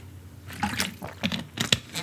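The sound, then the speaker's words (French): Someone takes a drink: a series of short, wet sips and gulps, several soft liquid bursts in quick succession, fairly quiet, with no talking. “Je bois un coup et on reprend la question.”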